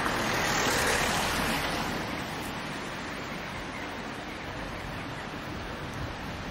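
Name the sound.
flowing river water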